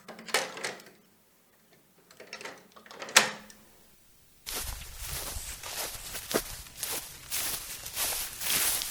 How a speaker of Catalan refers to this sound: Abans de marxar, em posaré les sabates i tancaré la porta amb clau.